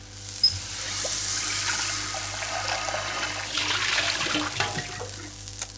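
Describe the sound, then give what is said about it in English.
Water runs steadily from a tap into an electric kettle, a close, continuous gushing pour that shifts slightly in pitch as it fills, with a brief sharp click near the start. “And put the electric kettle on so we can have a cup of tea.”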